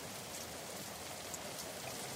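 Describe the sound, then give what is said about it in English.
Steady rain falls, a soft, continuous hiss of drops pattering on a surface. It is fairly quiet and even throughout, with no voices or other sounds. “He is in the rain.”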